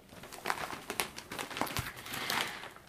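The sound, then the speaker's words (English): Crisp rustling and crinkling of paper as a newspaper is folded, a few sharp crackly bursts over about three seconds, then a soft settle as it's put down. No one speaks. “can you please put down the paper so we can have a proper conversation?”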